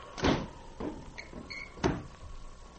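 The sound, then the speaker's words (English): A woodshed's wooden door thuds shut, followed by short creaks and a rattling latch, then another solid knock as crooks lock prisoners inside; three dull impacts in all, no voices. “Shut the door. We lock them in.”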